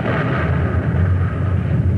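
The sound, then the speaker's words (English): A heavy wartime explosion at night, following a great flash of light in the sky, rumbles on as a deep, sustained roar, with thick low-end booming that rolls steadily without fading. No voices are heard. “You must have heard that explosion.”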